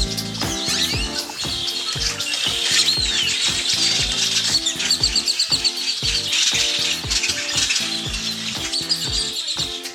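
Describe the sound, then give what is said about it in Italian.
A flock of birds flies past, filling the air with dense, overlapping chirps and twitters, loud and continuous throughout, over a steady low rhythmic thumping pulse. No one speaks. “Quello che avete sentito è uno stormo di uccelli che vola.”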